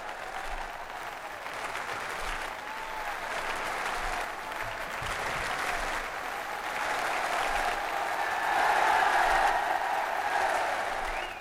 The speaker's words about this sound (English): A strong sound to start the day, the great roar of welcome which greets the Pope on his brief morning visit to St. Patrick's College, Maynooth, the National Seminary.